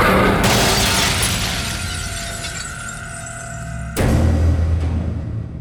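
A jaguar bursts through a mirror: the glass shatters in a loud, bright crash, followed by a ringing spray of falling shards and a second burst of breaking glass near the end.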